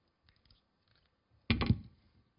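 Batteries being swapped in a presentation clicker: a few faint plastic clicks, then a brief, louder clatter and scrape of handling, with no talking.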